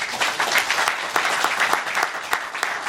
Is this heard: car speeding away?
no